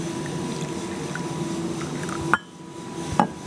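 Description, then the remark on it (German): Hot coffee is poured into cups for a tasting, not filled very full: a steady stream pours for a couple of seconds, then stops abruptly with a light clink; a second brief ceramic tap follows. “Ich gieße mal, ich bin nicht geizig, ich gieße nicht ganz so viel ein, damit er nicht ganz so kochend ist.”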